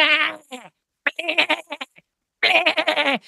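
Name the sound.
sheep bleating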